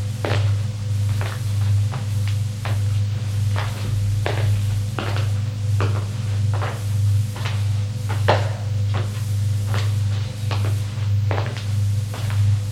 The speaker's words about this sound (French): Descend les escaliers.